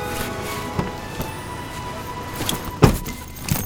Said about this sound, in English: Look! Found one of my cars. Need a lift? Sure.